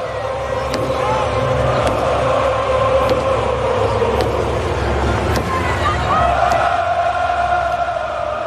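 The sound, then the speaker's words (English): A stadium crowd of about 70,000 at a nationally televised Chiefs Sunday Night Football game chants the tomahawk chop, a low droning melody sung in unison over dense roaring noise, with steady drum beats, the drum banged by former Chiefs player Tamba Ali, thumping roughly once a second. “Just 70,000 people doing the tomahawk chop.”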